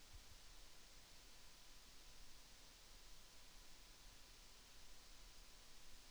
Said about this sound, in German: Ja, jetzt nochmal kurz still im Hintergrund hört man den PC rauschen.